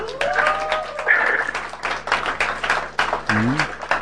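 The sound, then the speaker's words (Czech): An audience applauds steadily for about four seconds, dense overlapping claps with a few rising whoops and cheering voices mixed in, staying fairly loud throughout. “Wow, tak to chce potlesk.”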